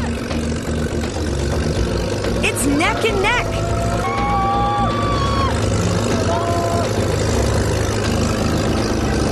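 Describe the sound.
A tractor engine drones steadily and loudly throughout, a deep continuous rumble powering the Mortarheads' twin-wheeled paddle-wheel boat in a race against the Kentucky Fried family, with an excited voice commentating over it and faint crowd noise.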